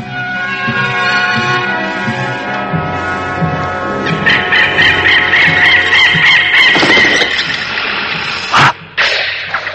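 A Sri Gunting (drongo) bird fighting a snake screeches and squawks loudly and nearly nonstop, harsh, agitated cries building into a frantic burst midway, with a few sharp thumps near the end.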